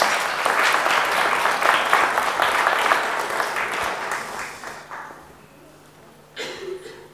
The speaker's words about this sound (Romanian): Vă rugăm să aplaudați!